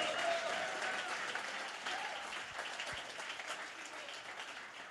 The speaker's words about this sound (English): Go ahead, take your 15 seconds, clap your hands, give the Lord a mighty hand clap.